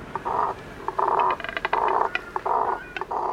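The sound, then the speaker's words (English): A double-crested cormorant gives a run of low, guttural croaking grunts, about five rough bursts in an uneven rhythm, each harsh and throaty, with brief clicking sounds between them. “Why do they have such a limited and guttural vocal range when many birds create glorious songs?”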